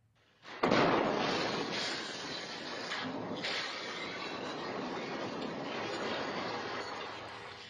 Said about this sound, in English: an RV parked on a deserted street blew up this morning, causing significant damage to buildings, including a nearby AT&T building. Surveillance footage from a church caught the moment of that explosion. First, you'll see it, then you'll hear it.